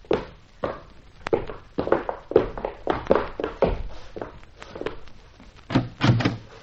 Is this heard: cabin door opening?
yes